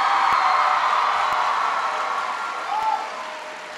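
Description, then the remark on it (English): A crowd at Masterman in Philadelphia claps in a dense, steady wash of applause that holds for several seconds, then gradually thins and softens toward the end, with no voices over it. “Give Kelly a big round of applause.”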